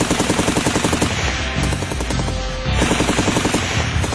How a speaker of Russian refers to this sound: Беспорядочная стрельба из нескольких автоматов. Потом гулкий удар.